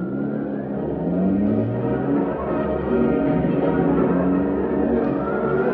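A car engine revs and accelerates steadily as the car sets off to follow another car, its pitch rising and sweeping up through gear changes, loud with a continuous rumbling roar and no voices.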